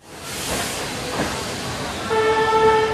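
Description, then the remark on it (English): A slow, crowded passenger train without air conditioning, train 5640 out of Guiyang in southwestern China, rolls along with a steady, airy roar and rattle through its open windows on a stifling day; near the end a sustained horn or whistle tone sounds over the noise. No talking. “Train 5640 out of the southwestern Chinese city of Guiyang has no air conditioning.”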